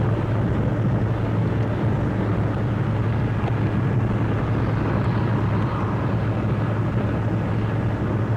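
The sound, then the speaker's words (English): A steady, dense roar of traffic on MacArthur Boulevard at about 7:40 as the air cools, cars streaming continuously toward the beach, a heavy low rumble with no gaps or pauses and no voices heard over it. “Cars are plowing along this MacArthur Boulevard to the beach.”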